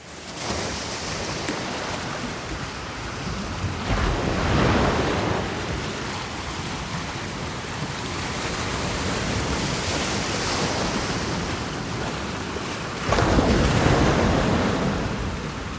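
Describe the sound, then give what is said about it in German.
A continuous, hollow rush of ocean surf heard in a seashell held to the ear, in a town in Lower Saxony, Germany, swelling and receding in slow waves with a stronger surge near the end. No voices. “Das Meeresrauschen auf dem Grund einer Muschel.”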